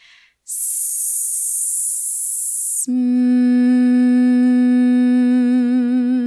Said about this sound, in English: First exercise, hissing to a hum.